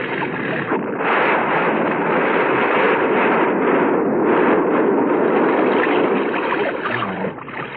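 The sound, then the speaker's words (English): A bus explodes in falling snow, miles from anything, in a loud, sustained roar: a dense, rumbling blast that swells after the first second and churns steadily for several seconds before easing slightly at the end. No voices. “Never saw a bus blow before.”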